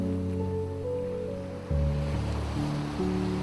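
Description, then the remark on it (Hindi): Sea waves on a deserted beach at night make a soft, continuous rushing hiss with no talking, while low sustained musical tones shift slowly underneath. “लहरों के शोर को भी जैसे नींद आ गई थी।”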